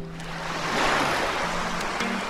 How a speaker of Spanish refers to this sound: Imagina un río tranquilo. Escucha el agua a lo lejos. Se va acercando a ti el sonido de ese río.